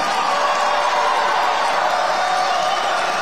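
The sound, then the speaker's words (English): A large crowd roars and cheers loudly, a dense, steady wash of voices and whoops that holds at full volume for a few seconds without letting up. “The crowd goes absolutely wild.”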